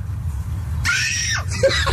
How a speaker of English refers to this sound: Now the second kid comes out on the porch and starts screaming, too.